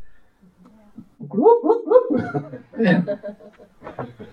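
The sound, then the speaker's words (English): A man's voice imitates the cluck an old mother hen made to call her chicks under her wing: a quick run of throaty, rhythmic pulses, then a louder guttural burst, trailing off into a few softer clucks. “And that old mommy hen, I was real close to her, and I heard her do a certain cluck.”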